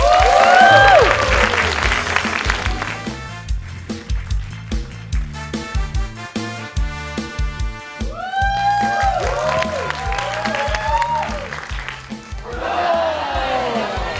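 An audience claps steadily for a stand-up comedian, with whoops and whistles rising and falling throughout, over a thumping rhythmic beat underneath.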